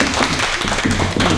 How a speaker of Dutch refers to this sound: Hey jongens, en een applausje voor